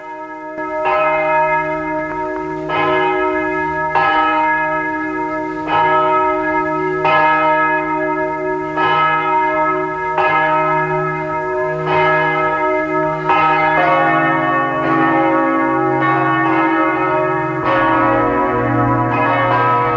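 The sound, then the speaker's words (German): Several bells of the parish church of Lackenbach in Burgenland, Austria, peal together at 12 noon in a steady, overlapping rhythm, their rich ringing tones sustained and fairly loud, with no voices present. “Es ist 12 Uhr. Sie hören die Glocken der Pfarrkirche von Lackenbach im Burgenland.”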